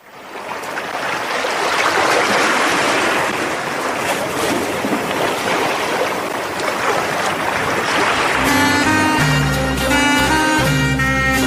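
sea waves

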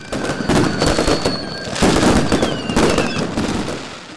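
fireworks exploding

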